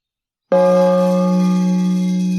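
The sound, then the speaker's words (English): A single loud strike on a brass sales gong in Canberra, struck in celebration, ringing out with deep, sustained metallic tones that shimmer and fade only slightly as it keeps resonating. “I have a brass gong I bang.”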